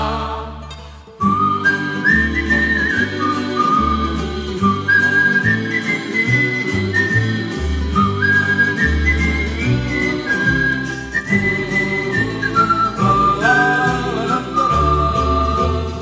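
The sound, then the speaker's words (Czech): A Romani man lying down whistles a song melody, clear, the tune gliding through sustained notes over a steady instrumental backing with a rhythmic low accompaniment. “Pohlédne se a pro pána v stínu, kde stojí líska, Marného vidí cikána, jak leží písničku píská.”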